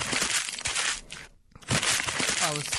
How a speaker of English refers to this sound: Oh, I got to crumple the paper. It's my paper. My paper. Somebody hand me my paper. How's it? Oh, there we go. Boy, I had a lot of paper to crumple there.